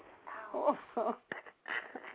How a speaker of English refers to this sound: And there's like nothing out here either, and they're barking at nothing.